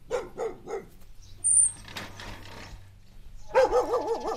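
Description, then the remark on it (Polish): A dog lets out three quick barks, then a wavering, high-pitched whine after a brief quieter stretch with a faint sharp chirp. “Dobry piesek, dobry.”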